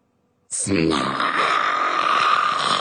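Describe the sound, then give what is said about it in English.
A loud snore from a queen sleeping in her bed bursts in after a brief silence: a throaty voiced snort that stretches into a long, steady rasping breath, likely a person's voice imitating the snoring. “Her snores are terrifying.”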